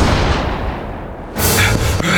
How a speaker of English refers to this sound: Tim Shaw heard the shot and kept running, his ear ringing with the sound.